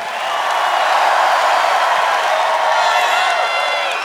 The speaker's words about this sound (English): Please give another big round of applause for this incredible cast.